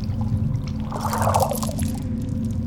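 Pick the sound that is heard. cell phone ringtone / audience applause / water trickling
water trickling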